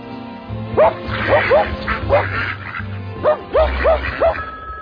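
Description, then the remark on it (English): A mongrel dog barks repeatedly in short, sharp bursts, about nine or ten barks coming in uneven clusters, loud over a low background hum. “You wandering mongrel. Get out of my mom and pop operation.”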